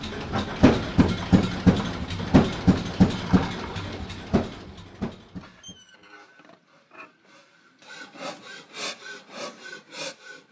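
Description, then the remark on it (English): An old, shiny dark green stationary engine sitting on a wood pallet chugs in loud, steady, evenly spaced beats, fades to a quiet lull, then picks up its rhythmic puffing again, with no one speaking. “But this was the first engine I ever started.”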